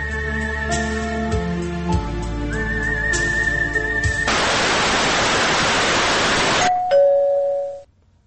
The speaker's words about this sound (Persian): چی بوده؟ زنگ در میزنن؟